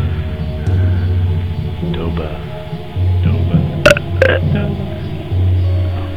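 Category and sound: human body sound, burping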